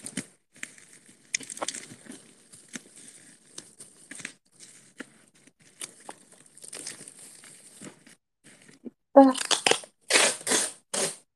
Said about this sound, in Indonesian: Double lagi. Oke, lakban lagi. Oke, terus ini dilakban lagi.